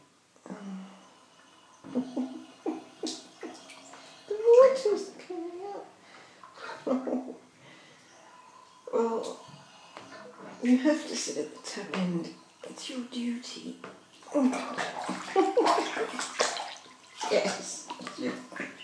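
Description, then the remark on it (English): Water sloshes and splashes in a bathtub in irregular bursts, with a child's voice babbling and chattering over the splashing throughout. “Don't knock the soap. It's all going on the water.”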